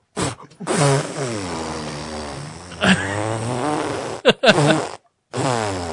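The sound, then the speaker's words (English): A voice imitates a long, drawn-out fart, a fairly loud buzzing raspberry that wavers for several seconds before breaking into a couple of shorter sputtering bursts. “Like, a long, long, just bad fart comes out of my butt.”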